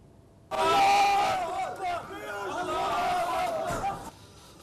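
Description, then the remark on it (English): A crowd of Palestinian mourners chants and shouts together at a funeral in the Al-Burej refugee camp in the central Gaza Strip, for a resistance fighter killed in an Israeli drone strike: a loud, dense mass of voices with rising and falling group cries sustained for about three and a half seconds before cutting off abruptly. “The Palestinians in the besieged Gaza Strip hold a funeral for a resistance fighter who was killed in an Israeli drone strike.”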